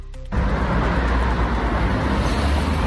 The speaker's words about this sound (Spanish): Mira, 70 vehículos, de los que una decena son buses urbanos, vemos dos patinetes y una sola bici. Es lo que hemos contado en solo 5 minutos en Birxia cerca, en el tramo justo debajo de la Plaza de Abastos, y no en hora punta.